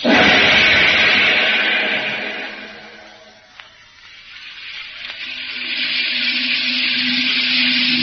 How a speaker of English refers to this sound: Now back to a rain-swept Pacific island and Jungle Jim.